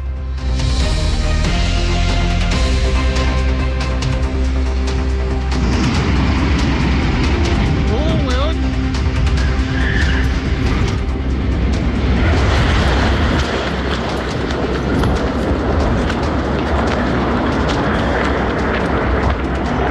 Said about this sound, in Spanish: lo que sí vamos a pasar a escuchar a continuación es el audio de nuestros auditores cuando nos compartieron el momento de la explosión. Sumamente dramático el momento, pero claramente lo compartieron con nosotros y ahora nosotros con ustedes.